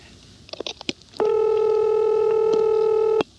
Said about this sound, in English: And the third example is Montpelier, which has had both its low tone, including the busy reorder tone and dial tone, updated to a Lorraine tone, and also the ring.